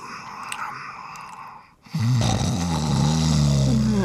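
A soft, breathy rasp gives way after a brief hush to a loud, low, rattling snore with a buzzing, droning tone that holds steady to the end, with no talking.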